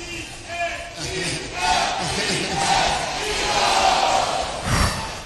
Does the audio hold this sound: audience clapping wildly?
yes